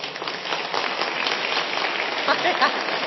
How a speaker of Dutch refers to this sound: Dan hebben we een winnaar. Applaus.